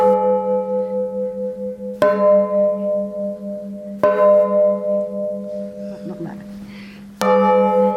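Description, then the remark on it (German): Large church bells struck through one after another, which normally does not happen, four loud strikes spaced a couple of seconds apart, each leaving a deep, humming ring that carries into the next. “Und wenn man so durchschlägt, was im Normalfall ja nicht passiert, hört man das auch, wie sich's ändert.”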